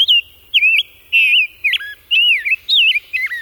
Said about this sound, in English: Head west to the Chicago Birding Trail to savor the songs of the rose-breasted grosbeak.